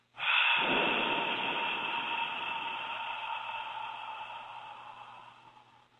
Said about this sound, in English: Breathing in through the nose. And blow the air out the mouth. Breathing in full success in your entire life. Breathe it in. Exhale out the mouth on an H sound.